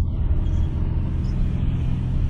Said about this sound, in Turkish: Egzoz sesi var. Bu yeni değil abi, Anadolu değil.